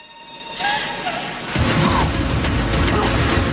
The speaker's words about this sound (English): the heavies open fire on the booth, smashing the large window.